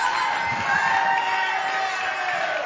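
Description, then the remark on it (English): A church audience shouts and cheers together during a sermon in a dense, continuous roar of many voices, loud and sustained throughout with high whoops rising above the crowd noise. “Ah, do a little shouting.”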